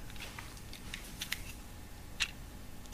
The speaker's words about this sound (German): Man hört die Uhr so laut ticken. Welche Uhr ist das denn? Die. Halt mal ans Mikro.